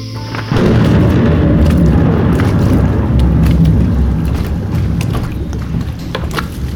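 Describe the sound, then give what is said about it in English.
A rowed boat moves through water, a loud, steady low rumble and wash of churning water starting abruptly and continuing, with faint splashes scattered through it and no voices. “Why do I feel like I'm the only one rowing for the past hour?”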